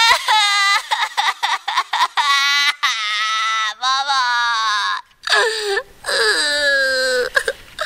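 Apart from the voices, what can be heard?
child crying and wailing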